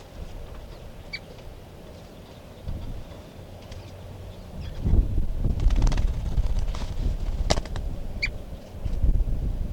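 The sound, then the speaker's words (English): A few brief, high bird calls chirp sporadically over steady, rumbling wind noise that buffets the microphone and grows louder midway through. “This is bird 4:47.”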